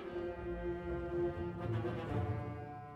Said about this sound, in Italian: Il segnale. Ascoltate, che sarà questo fischio?